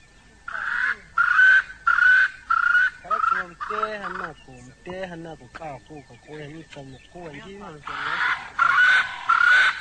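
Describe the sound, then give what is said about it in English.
A bird calls loudly in a run of rapid, harsh bursts, goes quieter with softer warbling notes for a few seconds, then breaks into another burst of loud, repeated calls. “There are some 95,000 different species of birds, each with their own distinctive call.”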